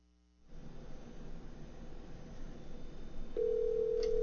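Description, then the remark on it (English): A phone line hisses with static as a call is placed, then a steady ringback tone begins near the end and holds, clear and fairly loud over the line noise. No one speaks. “Well, we're getting a ring. So we'll see what happens here. It's ringing.”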